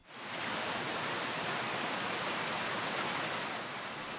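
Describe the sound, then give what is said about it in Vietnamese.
Heavy rain pours down in a steady, dense hiss, loud and unbroken from start to finish, with a fine crackling texture of countless drops and no voices. “Là tiếng mưa phải không ạ?”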